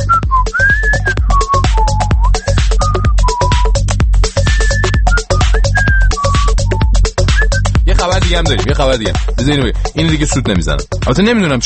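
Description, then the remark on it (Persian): A person whistles a wandering, high melody in clear tones over a steady thumping beat; after several seconds the whistling stops and someone talks over the continuing music. “من اجازه بدید در توضیح این خبر فقط هیچ کاری نکنم، همطوری مثلا سوت بزنم.”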